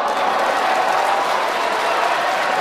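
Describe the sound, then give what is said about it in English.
Steady applause from a large audience, a dense wash of many hands clapping at once, sustained and fairly loud throughout with no talking over it. “They applauded him. You hear for a mixture there. I hear more applause.”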